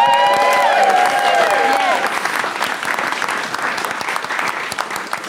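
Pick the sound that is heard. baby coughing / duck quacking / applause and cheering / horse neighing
applause and cheering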